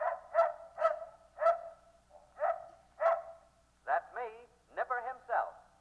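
In a radio advertisement, the RCA Victor dog barks about six times in a steady rhythm, fairly loud, then breaks into a few quick, wavering yelps and whines before one last bark, inviting listeners to step in.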